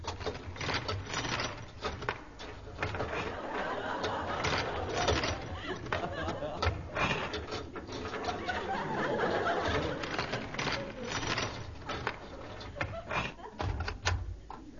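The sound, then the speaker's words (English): A door lock rattles and clicks through a series of sharp metallic snaps before the door is pulled open, with faint murmuring voices in the background. “A long time to open a door. Oh, the door's open.”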